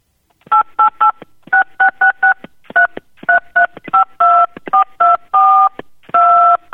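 A loud, clear string of phone keypad tones tapped out as a melody, with quick short beeps alternating with longer held notes in a sing-song rhythm, and no voices.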